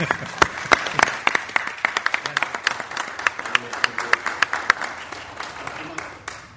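A crowd applauds steadily for several seconds, many hands clapping in a dense, irregular patter with sharp individual claps standing out, fairly close and moderately loud.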